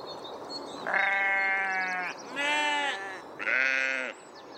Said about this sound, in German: Atmo, Sonntag, 30. Mai 2021, 9.15 Uhr an Brieftaubenzentrum Gelsenkirchen. Eingangsbereich. Gegenüber Schafe auf Wiese mit Hochsitz.